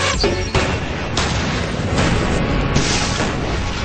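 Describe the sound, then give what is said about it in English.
A loud explosive blast from a special explosive standing in for one stick of dynamite, set off on MythBusters to blow out of a jail, rolls into nearly four seconds of dense, roaring rumble, with fresh bursts surging up every second or so. No voices are heard. “Okay, we're going to blow ourselves out of jail with one stick of dynamite.”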